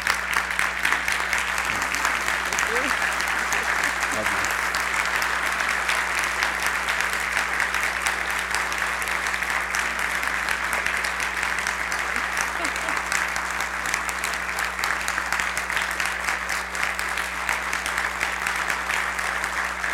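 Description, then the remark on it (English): Sustained applause from a crowd asked to stand and honor a woman for her service, a dense, steady patter of clapping that stays loud and even for the full twenty seconds, with a low steady hum underneath. “Could you stand and give her a round of applause for her service nature?”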